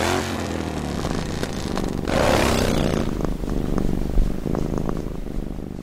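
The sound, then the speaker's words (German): A domestic cat purrs continuously and loudly, a steady low rumbling drone with a brief swell in intensity partway through. “Wahrscheinlich schnurren Katzen auch, um sich selbst zu heilen.”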